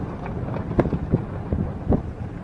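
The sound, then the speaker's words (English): Strong wind blows across a flat, cracked gray plain surrounded by gray mountains, with vans, trucks, cars and tents, a continuous low roaring rumble with several louder gusts buffeting through it, fairly loud throughout with no voices. “Everything's being blown at, blowing hard.”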